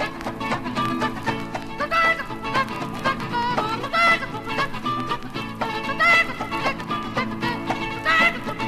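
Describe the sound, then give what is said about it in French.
Four or five white hens, circled around the listener, cluck busily, their short, choppy calls overlapping in a steady, crowded chatter with brief higher squawks rising now and then. “il y a 4-5 poulettes blanches, la falle en l'air, qui ont formé une manière de cercle autour de moi”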